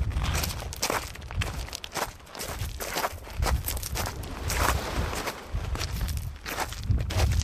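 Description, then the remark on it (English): Footsteps crunch steadily over small beach rocks with tufts of black seaweed and little spots of sand, each step a loud gritty clatter of shifting stones in an even walking rhythm, with no voices. “Rocks get smaller with tufts of black seaweed and little spots of sand. But as you can hear, mainly rock.”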